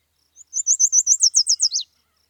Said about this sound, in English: the yellow warbler, which you just heard